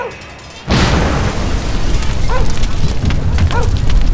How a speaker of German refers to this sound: Mitten auf dem Marktplatz stand jetzt ein altes Auto und wurde für den Stunt vorbereitet. Cool. Die fackeln die Karre ab. Das sind bestimmt Leute aus Hollywood. Und Feuer bitte!